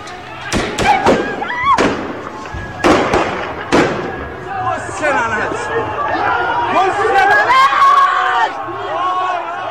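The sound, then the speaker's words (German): Several sharp gunshots crack out in quick, irregular succession amid a noisy outdoor crowd at a street protest demonstration in Iran, followed by agitated shouting and overlapping voices as the firing stops. “Schüsse auf einer Demonstration.”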